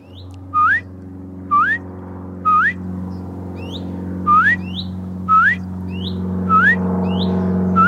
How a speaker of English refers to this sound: And this is the tree where this bird lives. And the bird flies in between this tree and the one next to it. And because I'm ignorant, I can't tell you what kind of bird that is. But I recognize its call. And it's always just there up on its own.